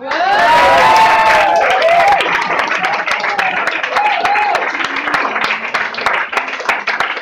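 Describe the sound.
After a call to applaud someone, a crowd breaks into sustained applause, dense overlapping claps throughout, with whoops and cheering voices rising over them at the start before settling into steady clapping.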